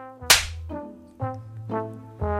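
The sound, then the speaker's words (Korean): One loud, sharp slap cracks out near the start as an uncle strikes a man hard across both cheeks, followed by a steady droning tone that swells in again roughly every half second. “작은아버지는 누런 얼굴에 왈칵 핏발을 세우며 그의 양쪽 뺨을 힘껏 때리고 소리쳤다.”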